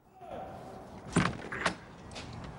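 Two firm knocks on a front door, spaced about half a second apart, over a low steady background hum.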